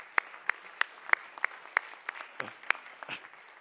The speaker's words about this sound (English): How about a round of applause for these three individuals here?